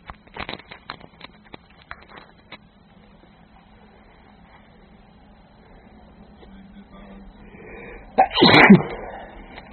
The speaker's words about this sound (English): Earlier in the week I had a cold making me sneeze loads, and now this.